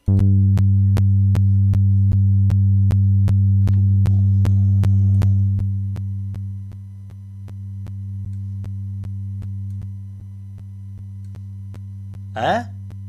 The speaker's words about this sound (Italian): Allora, tra cui questo qua, che è un sintetizzatore, no? Figo sintetizzatore. È figo, proprio.